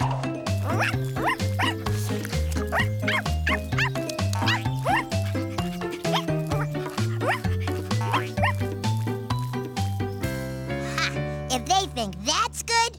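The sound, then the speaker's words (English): A dog's repeated barks and yips bounce along in rhythm over steady, tuneful background music, fairly loud, ending in a drawn-out, gliding howl-like cry. “Oh, what a cute dog.”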